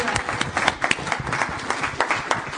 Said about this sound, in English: Let's receive him with a big round of applause again.